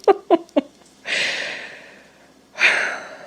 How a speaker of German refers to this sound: Ich muss mal kurz atmen.